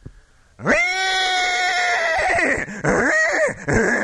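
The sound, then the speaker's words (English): After a short quiet moment, a person loudly imitates a horse whinny: a sustained, strained high call that breaks into a shaky, quavering whinny for several seconds. “I conclude the program with a horse.”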